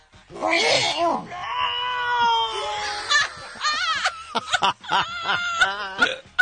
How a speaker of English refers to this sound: sneezed on half speed